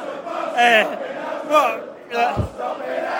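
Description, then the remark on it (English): A football crowd chants in unison 'We are a bus stop in Hounslow', many voices rising and falling in loud rhythmic bursts, with a brief low thump partway through. “Absolutely, as you can hear. Apparently, we're a bus stop in Hounslow, they're saying.”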